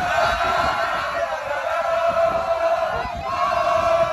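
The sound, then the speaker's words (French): A dense crowd roars and cheers steadily at the end, two hours after a match, as the players return to their bus, many voices blending into a loud, sustained wall of shouting with a constant high-pitched whine running underneath. “Écoutez cette ambiance à la fin, lorsque les joueurs rentrent à leur bus.”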